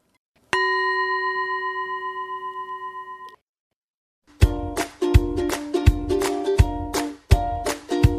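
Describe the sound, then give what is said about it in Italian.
A small mindfulness bell is struck once and rings out clearly for a few seconds before fading, followed after a pause by a quick series of bright, chiming strikes. No voices. “La pace e la tranquillità finalmente erano tornate grazie al suono di una piccola campana della consapevolezza.”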